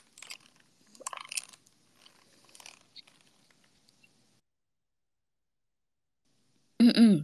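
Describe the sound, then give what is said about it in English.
Soft, scattered crunching and clicking noises of a keyboard for a few seconds, then a quiet pause before a loud throat clearing bursts in right at the end and is cut off. “I need to clear my throat.”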